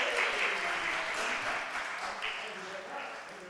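An audience applauds with dense, continuous clapping that holds at a steady, fairly loud level for a few seconds, then eases off slightly toward the end.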